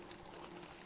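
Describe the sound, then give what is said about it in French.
A small stream flowing past ground strewn with dried ferns, twigs and branches, a soft, steady trickling wash that stays even throughout, fairly faint and with no voices. “petit ruisseau.”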